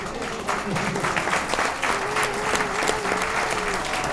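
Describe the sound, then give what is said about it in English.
Sustained audience applause, a dense steady patter of many hands clapping at even loudness throughout, with a faint murmur of crowd voices underneath. “Don't give them a hand.”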